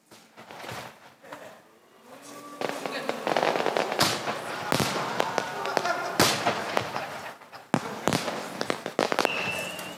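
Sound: fireworks display bursting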